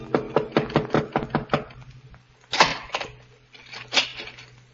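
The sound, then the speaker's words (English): A quick, even run of about seven knocks on a door a few minutes before midnight, followed by a pause and then two heavier, louder thuds spaced apart, with no voices. “A few minutes before midnight, the knock came.”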